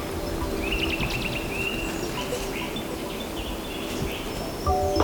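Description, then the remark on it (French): Wind rustles steadily through the leaves of chestnut, aspen and beech trees in a continuous broad hiss, with a few thin birdcalls chirping faintly in the background, under a very grey overcast sky with no rain. “Ici, comme je l'ai dit, du châtaignier, du tremble, du hêtre. Ça bouge de partout ici.”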